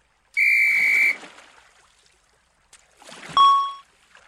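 A whistle, taken from a box in a boat on the water, is blown twice: first a steady shrill blast lasting nearly a second, then after a pause a shorter, sharper toot, both loud, with faint watery noise between.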